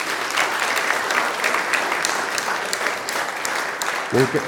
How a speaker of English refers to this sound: A round of applause for all the children.